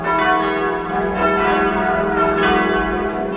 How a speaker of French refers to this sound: Voilà, alors ça commence, et on mettra le jingle des cloches. Ta-ta-ta.